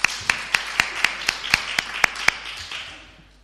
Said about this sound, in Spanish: y eso es lo que hace la Escuela Municipal de Teatro, a los que pido de verdad, a los que doy las gracias y a los que les doy un aplauso por el trabajo tan bueno que hacen.